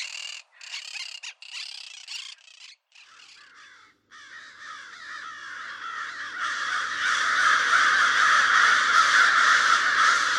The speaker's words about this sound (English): For a link to a video of crows mobbing a bald eagle,